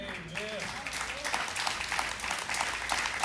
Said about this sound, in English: Amen. Listen, it feels good to clap about that, but let's live in this moment.